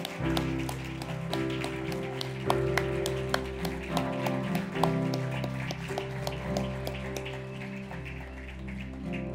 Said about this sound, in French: On applaudit tout le monde! Woo-hoo-hoo-hoo!